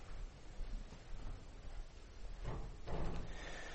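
A door being opened, with a couple of soft clunks and a brief rush of movement partway through, over a steady low room hum. No one speaks.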